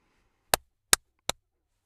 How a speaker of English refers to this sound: This is my booth, my custom built booth. Maybe I should clap.